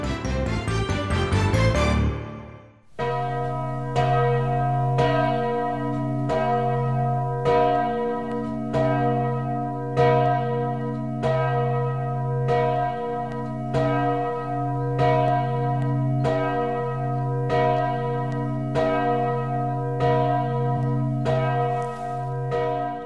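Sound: church bells ringing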